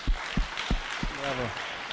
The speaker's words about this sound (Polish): Więc też są tutaj, można nie będę ich wywoływał, ale dajmy im brawa, dobrze?